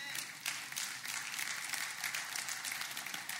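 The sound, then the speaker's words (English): A small group of about five people clapping steadily, a dense, even patter of hand claps that holds at a moderate level for the whole stretch, with no voices over it. “Now, 7 more of y'all clap with the 5 that are clapping.”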